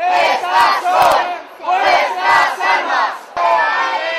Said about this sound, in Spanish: Se produjeron momentos de tensión al llegar varias furgonetas de policías antidisturbios dispuestos a cargar contra los manifestantes pacíficos que con los brazos en alto gritaban: «Estas son nuestras armas».